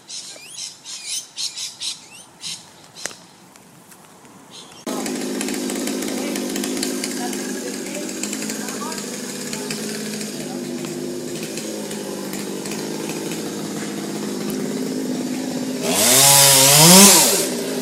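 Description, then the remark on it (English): Chainsaws cut down mature date palm trees at a road junction near a shopping centre, a continuous buzzing drone with rising and falling revving, swelling to a loud high whine near the end; birds chirp and squawk briefly before the saws start. “Down at the junction, this is the sound of chainsaws chopping down palm trees.”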